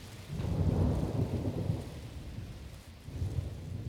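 A thunderstorm with a deep, rolling rumble of thunder swelling and fading over steady rain, the low roar building again near the end. No voices.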